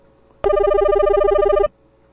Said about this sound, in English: Okay, I hear a phone ringing. Is Coach Dave there? Okay, he's calling, but he lost him. He's calling back in.